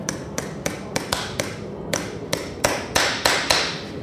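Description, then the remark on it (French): About a dozen sharp, ringing hammer strikes drive nails into the hoof wall of a horse named Ulvana, coming in an uneven rhythm of single blows and quick pairs, growing louder toward the end with no talking. “Parce que quand le clou il sort de la paroi, on entend, ça fait un bruit.”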